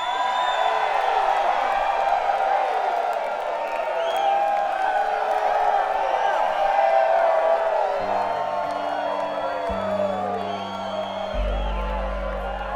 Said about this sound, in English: I hear some folks howling out there.